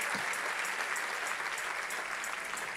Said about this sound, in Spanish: Si ese es el aplauso, dáselo más fuerte al Señor.